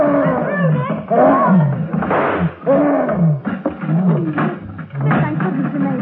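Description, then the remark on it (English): An attacking gorilla in its cage at the Idle Hour Amusement Park, being shot at with a revolver, roars and snarls in a continuous run of loud, guttural bellows whose pitch swoops up and down, with brief breaths between bursts and no talking. “In the gorilla's cage at the Idle Hour Amusement Park, Nick and Patsy realize that revolver bullets may slow up the attacking monster, but never stop him.”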